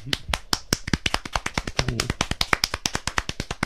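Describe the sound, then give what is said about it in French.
Audience applause: a steady stream of crisp, rapid hand claps that stays fairly even in loudness throughout, with a brief murmur of a voice partway through. “Et on l'applaudit bien fort.”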